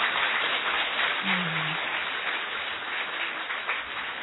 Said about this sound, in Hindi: खूब अच्छे से ताली बजाओ, खूब अच्छे से।